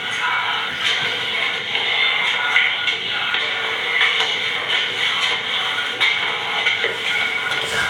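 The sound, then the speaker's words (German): Faint footsteps on the stairs of a house stairwell, a series of soft, irregular thuds and shuffles under a constant loud hiss, picked up by a sensor microphone in the stairwell at 10:44. “Eindeutig, das sind Schritte. Ja, die Treppen.”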